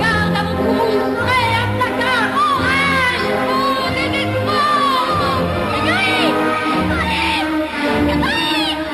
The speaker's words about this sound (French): En 1990, on pouvait voir dans une publicité des femmes crier en furie et en cœur, ce qui constitue l'objet du dernier livre du philosophe Dominique Lecourt, L'égoïsme.